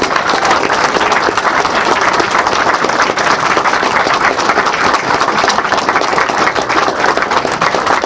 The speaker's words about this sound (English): Anyway, so I one last round of applause for all these people, because God bless them all. They made this possible.